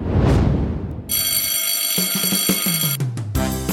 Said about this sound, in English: Well, kids, the dismissal bell is ringing.